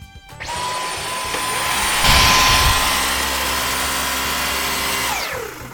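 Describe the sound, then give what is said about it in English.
A vacuum cleaner switches on and runs with a loud, steady whine and airy roar for about five seconds as someone does the hoovering, then its motor winds down, with no one talking. “So, I'm going to quickly do the hoovering, and you can listen to the podcast.”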